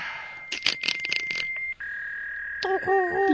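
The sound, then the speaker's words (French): An old dial-up modem dials and connects: a steady tone, a burst of rapid dialing pulses, then a shift in pitch and a rising series of warbling handshake tones, fairly loud. “On va faire aller notre bon vieux modem.”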